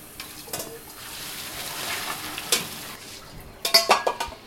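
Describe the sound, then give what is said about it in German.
Spaghetti being stirred and tossed with sauce in a pan, with wet squelching and scraping, a soft sizzle underneath, and a burst of clinking utensil strikes near the end. No one speaks. “Jetzt sind die Spaghetti in der Pfanne und werden vermischt mit der herrlichen Soße.”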